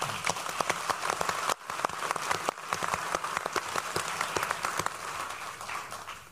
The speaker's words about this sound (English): We have Lutherans, Catholics, and Unitarians applauding the Methodists. That's great.